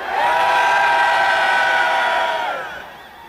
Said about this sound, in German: Von hier aus mal mit einem Laut- und Schrei grüßen, damit das schnell vorangeht. Wollen wir das mal machen? 1, 2, 3!